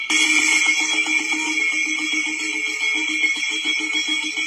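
A spoon rattles rapidly and continuously against a metal colander placed over a phone during a call with a scammer, building a loud, steady metallic clatter with bright ringing overtones that holds for several seconds without any talking.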